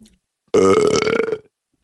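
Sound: burp into the microphone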